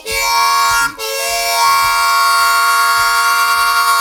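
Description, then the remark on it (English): A steam train whistle blows loudly in two blasts, a short one cut off by a brief break, then a long steady shriek with rich layered tones over low chugging rumbles. “Listen to my whistle blow.”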